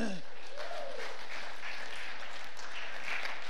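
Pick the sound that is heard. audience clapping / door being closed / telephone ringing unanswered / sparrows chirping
audience clapping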